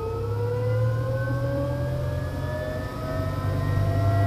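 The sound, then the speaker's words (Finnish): Laboratory machinery at a cyclotron particle accelerator hums steadily and loudly during a test, a deep drone beneath several whining tones that slowly glide upward in pitch, with no voices present. “Ja kuunnellaanpa, miten testi tehdään kiihdytin laboratoriossa syklotronilla.”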